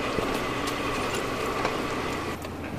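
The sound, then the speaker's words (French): A tractor engine idles, a steady low rumble with a rough mechanical hum that holds at a constant level for a few seconds, easing slightly near the end. “J'ai pas l'habitude de descendre des tracteurs, ça se voit, hein.”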